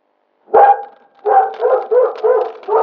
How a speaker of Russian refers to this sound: Лай громче!